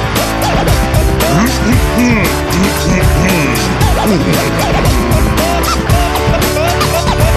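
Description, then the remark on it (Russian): Several race car engines rev loudly and continuously, their pitch repeatedly climbing and dropping as they overlap, with tires squealing amid the roar and no voices. “Дамы и господа, заводите свои моторы.”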